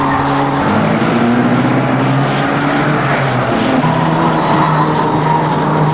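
car engines

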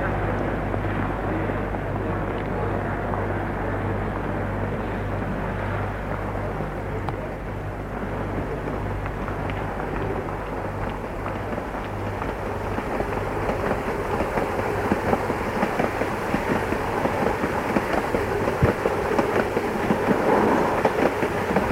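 train departing

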